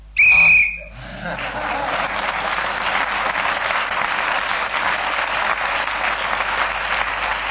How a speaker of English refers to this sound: It was a long 3 seconds, wasn't it? Who was speaking then as the whistle went?